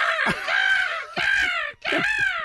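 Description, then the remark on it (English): A person loudly imitates a seagull in a Seagull Championship on the Kevin and Bean Show on KROQ radio, letting out three harsh, squawking calls in quick succession, each about a second long, with no other talk. “I won the Seagull Championship.”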